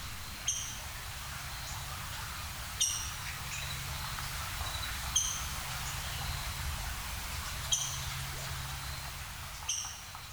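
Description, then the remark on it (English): A migrating flicker high in the trees at Devil's Den State Park in fall gives five sharp, high keek calls, evenly spaced about every two seconds, each short and piercing over a steady low rumble of background noise. “Here's a recording this fall of a bird high in the trees as it was migrating through Devil's Den State Park. Listen for keek, keek!”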